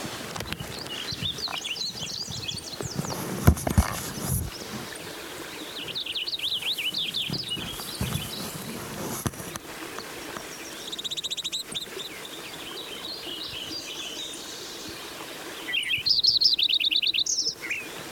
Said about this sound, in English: Lincoln sparrow. Number one song.